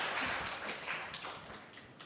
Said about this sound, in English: Yes, round of applause.